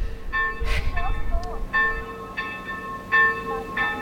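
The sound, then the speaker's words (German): Church bells in Worpswede, Germany, clang in quick, irregular strikes, about five or six, each ringing on over the next, rung wildly as a fire alarm by girls hanging on the bell ropes, with a low rumble and faint murmuring voices underneath. “Dieses Glockenläuten, dieses Unorthodoxe, war das Zeichen für Feuer.”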